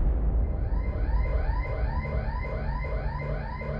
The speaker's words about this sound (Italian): Ma quando ormai è rimasta sola, l'allarme di casa sua squarcia la quiete della notte.